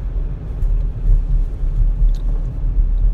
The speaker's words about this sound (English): Yeah, I'm looking here. I see a tow truck pulling a car. Looks like it's a wreck.